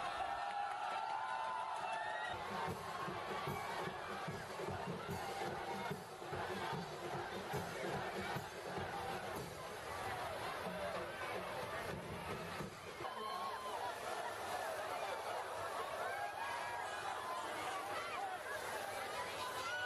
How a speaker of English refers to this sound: As we leave you, scenes from celebrations of the feast day of St. John the Baptist in the Philippines, where water comes from fire trucks, not the Jordan.